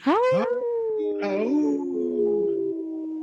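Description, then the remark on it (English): A man's voice imitates a wolf, letting out a long sustained howl with rising and falling pitch after a couple of short yelping starts, loud and unaccompanied. He took his glasses off to howl. Recorded in the Twin Cities, Minnesota. “Hey, I noticed you took your glasses off to howl”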